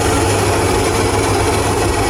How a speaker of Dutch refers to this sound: Hier is dat gevreesde fragment. Een nieuwskop. Die nieuwskop is gesneld door het lawaai van het koffieapparaat.